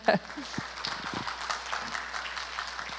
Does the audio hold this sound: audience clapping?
yes